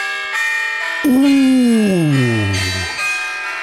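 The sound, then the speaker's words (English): Bright, ringing bells with a festive shimmer. A few loud strikes sustain and overlap, and one long tone slowly bends downward in pitch before the ringing fades out. “Ooh. Christmassy bells.”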